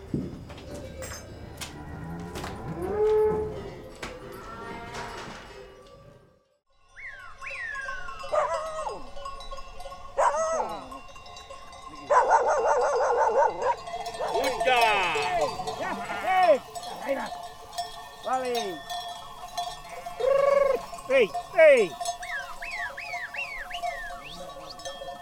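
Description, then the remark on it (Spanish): Cowbells clank steadily inside a stable within a traditional farmhouse (quintería) while sheep bleat again and again, with deeper cattle lowing early on, a brief lull, then a busy chorus of animal calls. “En estas cuadras solían guardarse vacas, mulas y ovejas.”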